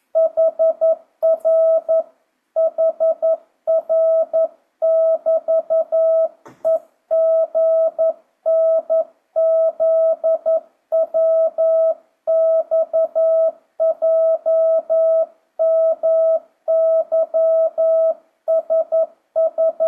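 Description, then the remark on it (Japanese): A steady single-pitched tone keys on and off in rhythmic dots and dashes, Morse code sent at a slow, even pace of 11 words per minute, loud and clear with no voices for the full stretch. “11WPM”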